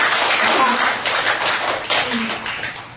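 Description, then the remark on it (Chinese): A group claps their hands together in a steady, dense burst of applause that holds fairly even for a few seconds, then gradually softens toward the end. “对啊，拍拍手， 谢谢你们。”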